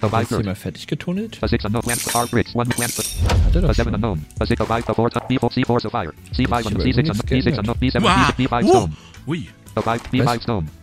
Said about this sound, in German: Beinahe wäre mir meine noch halbvolle Dose umgefallen. Nein, umgefallen, weil ich sie dummerweise auf einem Besteckteil abgestellt habe.